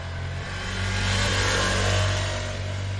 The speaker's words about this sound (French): Eh bien ce moteur-là, il n'est pas très conciliant en dessous des 3000 tours par minute. Il n'aime pas tellement reprendre ces régimes-là. Autour des 5000 tours par minute, on a eu pas mal d'irrégularités sur le ride-by-wire.